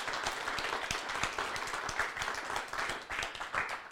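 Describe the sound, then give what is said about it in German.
An audience at the Kap 1 venue applauds steadily, many hands clapping in a dense, continuous wash of sound that stays fairly even throughout, with no voices standing out. “Und mit diesem donnernden Applaus verabschiede auch ich mich von Ihnen, liebes Publikum, hier im Kap 1 und an den Radiogeräten im Streaming, wo Sie uns hören.”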